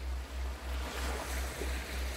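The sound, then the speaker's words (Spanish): Ocean waves wash steadily onto a calm natural beach of white sand in a continuous hiss of surf, carried over a low, evenly pulsing rumble. No one speaks. “Te encontrás en una cama cerca de las olas, con la arena blanca”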